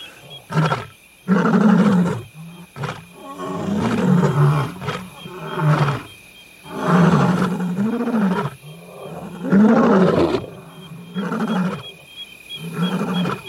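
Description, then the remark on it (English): Three lions of the same pride roar back and forth at night in pitch blackness, communicating their positions, one about 20 yards away: a loud series of deep, rhythmic grunting roars repeating about every second or two, with a faint steady high-pitched drone in the background and no talking. “Those are not aggressive roars. They are communication roars.”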